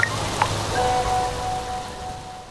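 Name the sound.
rain falling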